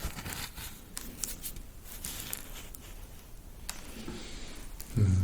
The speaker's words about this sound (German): Das ist braun. Und geometrisch geformt, aber sehr porös. Also das Rieseln hat man gehört, genau. Was ist das? Das ist ein Objekt aus Stampflehm.